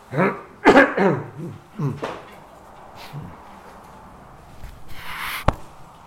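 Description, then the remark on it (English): A few throaty coughs burst out in the first two seconds, followed by a quiet stretch of background noise and a single sharp click near the end. “I'll just let you know that I have strict instructions from my wife when and how to cough.”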